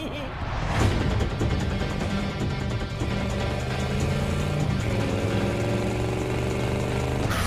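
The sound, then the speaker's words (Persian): A car engine rumbles steadily, then revs and accelerates with a rising pitch over the final few seconds, loud and continuous throughout. “ما با ماشین خودمون میاییم.”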